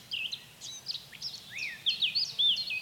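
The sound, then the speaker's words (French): Several birds waking at dawn in spring sing and chirp in an overlapping chorus, including cirl bunting, blackcap and song thrush, quick high whistles and trills tumbling over one another, with a soft low rumble underneath and no voices. “Au printemps, nous sommes retournés sur le site pour entendre au petit matin le chant des oiseaux qui se réveillent.”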